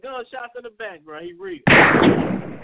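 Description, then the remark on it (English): A voice talks briefly, then a loud gunshot sound effect bursts in abruptly and roars on as a dense, sustained blast of gunfire noise until the end. “Get the gunshots in the back, bro.”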